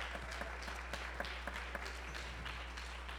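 A crowd applauds steadily for the largest senior graduating class in many years, about 14 four-year seniors, many hands clapping in a dense, even wash of sound with a few sharper claps poking through, moderately loud and with no voices over it.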